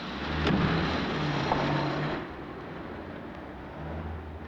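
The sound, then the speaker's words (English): A patrol car's engine rumbles with a steady low hum, then the sound drops away after a couple of seconds as the car is driven off by the patrolman's driver, leaving quieter road noise. “The three men furtively watch as he gets back into the car and is driven off.”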